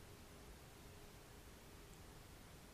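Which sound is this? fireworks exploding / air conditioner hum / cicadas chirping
air conditioner hum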